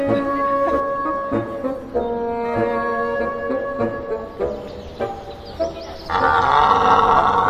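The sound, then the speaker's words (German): A deep, drawn-out bellowing roar of a stag deer repeats in long moaning calls that rise and fall in pitch, ending in a louder, rougher burst. No one speaks. “Wer ist der Mann vom Reh? Wer ist der Mann vom Reh? Das ist der Hirsch dann.”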